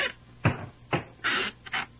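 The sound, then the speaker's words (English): In a radio drama, Sweeney Todd's barber chair squeaks and creaks several times in an uneven rhythm, each raspy, mid-to-high pitched squeal lasting a fraction of a second, with no one talking. “A trifle squeaky, Mr.”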